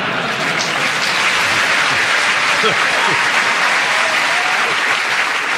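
A steady round of audience applause for a contestant who went for 49 seconds, dense clapping from many hands holding an even, loud level throughout without fading, with no voices standing out above it.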